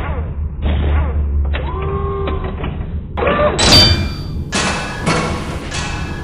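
A series of heavy, booming blows strike wood, with creaking and splintering between them, ending in loud crashing impacts as the door gives way.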